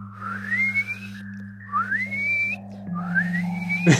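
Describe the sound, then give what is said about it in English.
Three rising dolphin-like whistles transmitted from a dolphin noise machine used by Andoni's team, each sliding upward in pitch over about a second, above a steady low electronic hum, ending with a brief sharp click. “Andoni's team has got kind of like a dolphin noise machine.”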